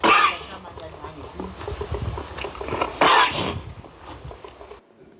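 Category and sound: human body sound, cough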